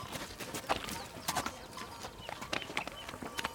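A donkey's hooves clip-clop at a steady walking pace on a hard path, sharp irregular knocks, with faint birdsong and no talking.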